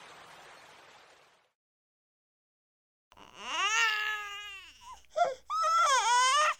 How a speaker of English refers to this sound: A princess from Egypt is in the river. Look, what's that? Oh, it's a baby.